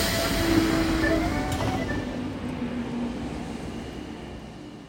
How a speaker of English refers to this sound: I've put my microphones in a bag and I'm going to his office in the Collège de France to find out what he's going to be talking about. Not every Parisian train has its own accordion player, by the way, but this one does. So I thought you'd enjoy it.